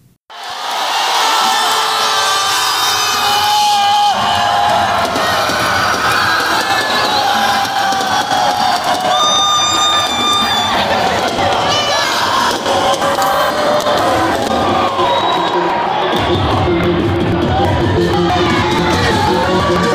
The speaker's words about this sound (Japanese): ちょっと二つ音を取ってきました。一つは、だから最初はホワイトソックス、味方チーム。ホワイトソックスの地元の人にとって味方の人が、あの、ホームラン打った時の音です。